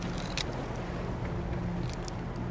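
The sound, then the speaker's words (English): A boat's motor drones steadily at a low pitch as the boat heads out onto Lake Tahoe at sunrise, wrapped in continuous rushing noise from water and wind. It runs unbroken and fairly loud throughout, with no voices. “pilot their boat out onto Lake Tahoe.”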